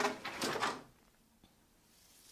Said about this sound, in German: Es geht wieder an den Webstuhl. Und mit der Anschlaggabel, die wir liebevoll Klopfi nennen, wie Sie hören, schlage ich den Schuss nach unten.